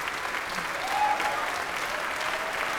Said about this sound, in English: Here he comes, at quite a canter, getting applauded by the orchestra as well as by the sold-out crowd here at City Hall's.